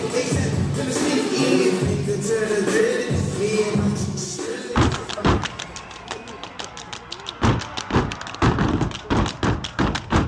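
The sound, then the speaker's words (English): Rhythmic stomping and sharp percussive claps from the Black Ice Step Team of the College of New Rochelle in New York, performing at the school's Straw Fest, starting after a few seconds of crowd noise and continuing in tight, repeated patterns with the audience audible underneath. “That's the Black Ice Step Team of the College of New Rochelle in New York at that school's Straw Fest.”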